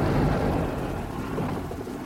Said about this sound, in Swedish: Det har dessutom börjat regna. Sikten är dålig och väglaget blir allt lömskare.